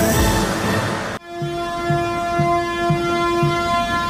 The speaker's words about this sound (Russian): Вагончик тронулся. Двухмесячные гастроли агитпоезда начались на Казанском вокзале Москвы в торжественной обстановке.